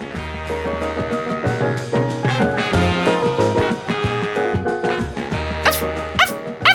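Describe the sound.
A dog barks and growls repeatedly over a dense, droning background, ending with a few sharper, louder barks.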